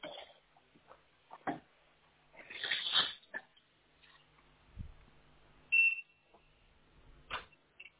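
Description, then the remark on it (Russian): An optical network tester being switched on gives a short, sharp, high-pitched electronic beep partway through, standing out clearly amid scattered clicks, rustles and handling noises. “Слышал, пищит там. Да, я тестер включаю. Оптически.”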